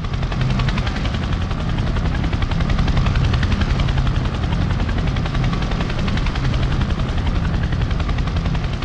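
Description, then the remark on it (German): A helicopter hovers over the ship Arctic Sunrise while armed Russian FSB troopers slide down a wire onto its deck, its rotor thudding in a steady rapid beat over a loud, continuous engine roar that fills the whole stretch without pause. No voices can be heard. “I ran out on the heli deck and I saw the first of this masked, camouflage-clad, heavily armed troopers slide down the wire onto the deck of the Arctic Sunrise.”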